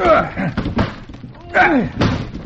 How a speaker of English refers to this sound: Quick. Let's smash this door.